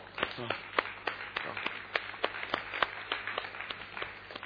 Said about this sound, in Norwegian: De døve begynner å klappe, da bør vi gjøre det også.